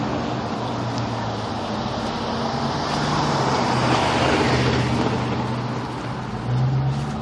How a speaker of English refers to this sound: And you can tell from the traffic noise that I'm coming up on the most difficult intersection of my morning walk. Although, looks like the traffic has cleared out as I approach.